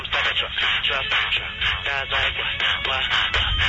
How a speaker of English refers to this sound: You would just be humiliated if this hit your ringtone.